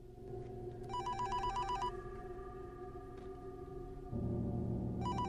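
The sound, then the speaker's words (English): A mobile phone lying on a desk blotter rings in short repeated electronic bursts, about a second long with gaps between, over a steady low background hum; no one speaks. “He pulls the blotter on which sits his ringing mobile towards him and eyes it strangely.”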